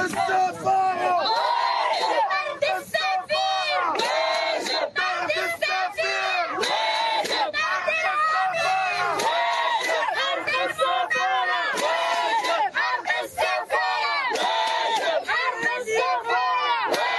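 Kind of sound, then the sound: crowd, protest crowd chanting slogans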